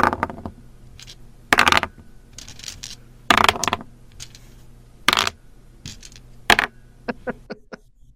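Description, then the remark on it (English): Gaming dice rolled on various surfaces, including wood and plastic: four separate clattering rolls, each a short rattle, ending with a few light, quick ticks as the last die bounces and settles. No talking. “gaming dice rolled on various surfaces”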